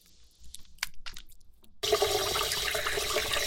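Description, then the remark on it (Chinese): A few soft clicks and taps, then a sudden loud rush of water starts and keeps going steadily, a full hissing gush like a toilet being flushed. No one speaks. “来，我们冲水吧。”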